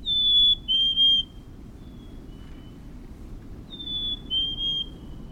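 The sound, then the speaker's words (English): A black-capped chickadee sings its clear, high two-note whistle twice, each phrase stepping down slightly in pitch, with a pause between, over a steady low rumble. “Even in the ruthless grip of winter, when the snow crunches beneath your boots, an ember glows in the lilt of a black-capped chickadee.”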